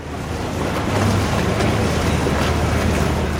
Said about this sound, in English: On the water beside us, a crewless speedboat zips up and down.